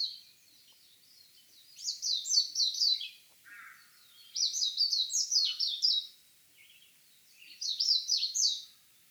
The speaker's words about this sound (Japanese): メジロのさえずりは早口で複雑な節回しで長く鳴き続けます。六義園で早朝、メジロが鳴いている場所を見つけました。